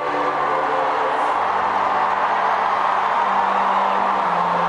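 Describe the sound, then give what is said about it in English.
A large crowd cheers and applauds as Pope Benedict XVI appears in his popemobile for his first Holy Mass on Portuguese soil, in a steady, dense roar that holds at the same level throughout, with faint low tones humming beneath the noise. “And the cheering drowned the sound of the foghorns, the squawk of the seagulls.”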